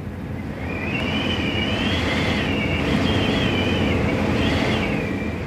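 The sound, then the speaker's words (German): Strong wind roars steadily with a high, wavering whistle rising and falling above the rush, loud throughout, heard from a ladder more than 100 metres up in the Ruhr region of Germany in February 1983, with no voices. “Das habe ich mir nicht vorgestellt, was da für ein Wind pfeift.”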